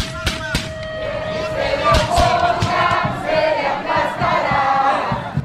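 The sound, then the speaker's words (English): A loud, chaotic crowd of demonstrators in Honduras shouting and yelling over sharp thuds and bangs, with a sustained tone early on, dense throughout, as protesters hurl stones at soldiers and the Honduran military fires on the crowd with gunfire and tear gas. “Demonstrators hurled stones at the soldiers in response, trying to escape the gunfire and tear gas.”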